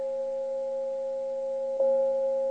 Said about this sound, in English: Crystal Tones, which is also another way to help quiet the mind when you have crystal bowls